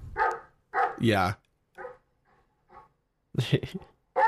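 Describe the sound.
A big dog gives a few deep, loud barks mixed with a drawn-out whine, in short bursts separated by pauses, with a person briefly speaking.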